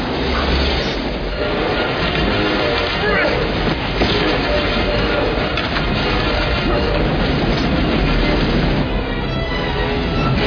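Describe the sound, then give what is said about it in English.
A real staged train crash for a film, a train being pushed into a bus with real sparks created by special effects man Roy Arbogast: a loud, continuous roar of heavy rail wheels, grinding and scraping metal filling the whole stretch without letup. “Peter McGregor Scott really helped design all this, and with Roy Arbogast, our special effects man, we did a real train crash here. This is a train being pushed into a bus, real sparks being created by Roy”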